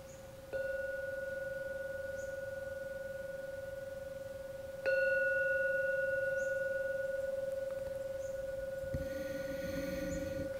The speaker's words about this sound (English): I'm now going to ring the gong 3 times. Please listen to every sound of the gong. After the 3rd ringing, come out from your meditation.